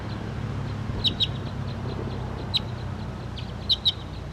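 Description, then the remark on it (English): Short, high-pitched calls of a wild bird and of bird 5-7, recorded on filter 3, come in pairs of quick notes at irregular intervals over a steady low rumble of background noise. No one speaks. “And the wild bird and 5-7 are calling on the side right here, but this is 301 pointing at.”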